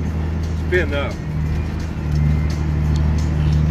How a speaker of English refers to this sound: Driving and videoing, but it's all good. We're out here in the hayfields of Ohio right now. I thought, hey, what a deal. We'd do a live. I actually am in a big truck here.